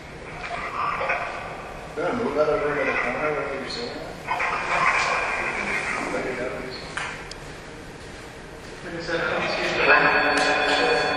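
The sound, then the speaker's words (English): A dog barks and yips in several bursts over about ten seconds, loud, with brief pauses between and some voices mixed in the background. “Did the dog jump off the counter now?”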